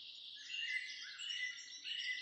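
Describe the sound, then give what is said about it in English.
Many birds sing at once in a dense, continuous chorus of high chirps and trills, steady, with no voices present, heard in 2020 during COVID-19 lockdown. “In 2020, as we enclosed ourselves to protect ourselves and others from the ravages of COVID-19, I noticed for the first time in a long time the resonant chorus of birdsong.”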